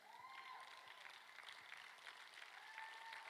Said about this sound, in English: See, now that's just a pity clap.